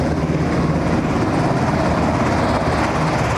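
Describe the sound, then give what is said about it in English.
A National Guard Pave Hawk military helicopter lands on the tarmac at Palmer Airport, its engines and rotors making a loud, steady, rumbling roar that fills the whole moment without letting up. No voices are heard. “One of those strange aircraft could be a National Guard Pavehawk helicopter, the kind used in difficult rescue missions in war or in peacetime.”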